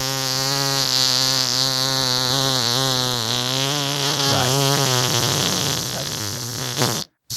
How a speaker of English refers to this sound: So you call their voicemail number, and you give out the longest farting noise that you possibly can, and then you're entered into the contest.